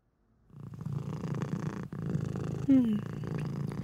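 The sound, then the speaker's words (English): A cat purrs steadily, a low rhythmic rumble that starts after a short silence and carries on throughout, with a brief higher chirp partway through. “Then, you could be the first cat in the Louvre.”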